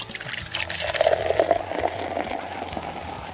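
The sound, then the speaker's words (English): Beer pours steadily into a glass at a microphone, a continuous fizzing, gurgling stream with a rising bubbly pitch as the glass fills, lasting a few seconds. “But I guarantee you'll be able to pour it on the mic pretty well.”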